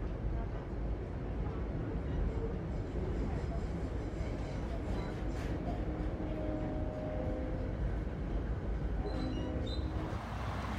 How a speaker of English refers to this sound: On the train, Jamie adjusts her glasses while listening to her Walkman.